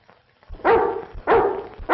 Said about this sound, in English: A guard dog barks nearby.